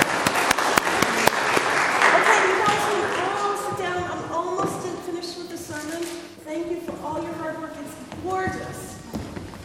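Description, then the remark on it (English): A group bursts into dense, steady clapping for people who completed their work, peaking in the first few seconds, then thinning as excited voices chatter and call out over the scattered remaining claps. “Let's give them applause for doing their work.”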